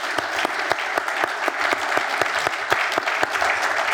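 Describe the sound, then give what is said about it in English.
A crowd claps steadily in a round of applause congratulating a company and its organization, a dense patter of many hands with sharper individual claps popping out, sustained at even loudness throughout, with no talking over it. “So again, I want to congratulate you and your organization and give you a round of applause.”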